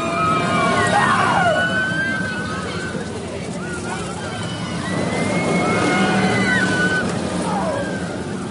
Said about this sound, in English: I heard what sounded like a man screaming twice. That's correct, yes.